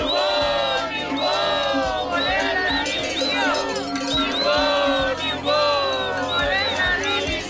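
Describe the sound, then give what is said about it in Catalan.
Protesting teachers blocking the N-230 road at Es Bòrdes, in Pont de Suert, Lleida, shout and chant for the resignation of Catalan education minister Esther Niubó, rising and falling in loud, rhythmic bursts of many voices, with a steady low rumble underneath throughout. “Era a dimissió de la consellera d'Educació, Esther Niubó, i so que d'una cridauen els manifestants en aquest punt.”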